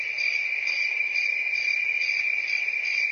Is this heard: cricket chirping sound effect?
yes